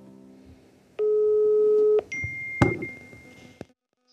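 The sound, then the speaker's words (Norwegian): A single steady telephone ringback tone sounds for about a second, followed by a sharp click and a thin, higher electronic tone as the line connects. No one speaks. “Og så skal vi skal aller først få høre et lite klipp av telefonsamtalen der jeg ringte henne”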